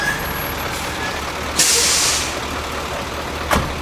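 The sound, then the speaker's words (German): A heavy-haul truck carrying an 80-tonne load in a convoy at night idles with a steady low rumble, then a loud hiss of air brakes bursts out for about a second, followed later by a short sharp air release. No one speaks. “Ich trötschle dem Konvoi exzeptionell hinten nachher und frage mich, wie man eigentlich mit 80 Tonnen hinten drauf bremset, wenn es irgendeiner in dieser Nacht über die Wüdesalp-Nitze Richtung Schottfond geht.”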